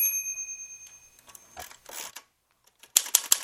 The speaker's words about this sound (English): Conventional sounding typewriter.